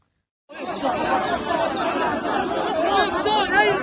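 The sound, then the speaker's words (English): Dense crowd noise of many overlapping voices shouting and chattering at once, starting abruptly after a brief silence and holding loud and steady, with occasional higher cries rising above the din, as two released Israeli hostages are bundled through the surging crowd in Khan Yunis, Gaza. “2 Israeli hostages bundled through the surging crowd.”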